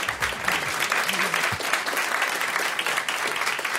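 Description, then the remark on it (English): A crowd applauds steadily for New Yorker magazine humorist Patricia Marks and cartoonist Roz Chast on WNYC's Brian Lehrer show, a dense, even wash of clapping that holds at a constant loud level throughout, with a few faint voices murmuring underneath. “Who need no introduction, apparently, or invitation from me to applaud for.”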